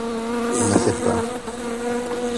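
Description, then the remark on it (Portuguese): A swarm of bees buzzes loudly and continuously, a dense droning hum that stays steady throughout, with no voices. “As abelhas vão te acertar.”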